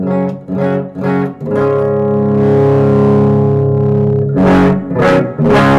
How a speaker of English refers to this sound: Now is that just the guitar, correct? Yeah. Okay. Do me a favor and bring the gain down on the amp so we just get it clean.